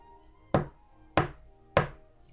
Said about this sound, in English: Suddenly, a knocking was heard at the city gate.